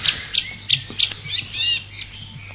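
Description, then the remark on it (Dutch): A song thrush sings a run of short, bright, repeated phrases in quick succession, fairly clear, over a faint low hum. “Een jaar of 10, 15 terug waren er misschien maar half zoveel zanglijsters in de vrije natuur als nu. Toch wel heel mooi om naar te luisteren, hè?”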